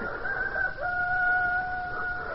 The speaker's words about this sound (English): the cock crew.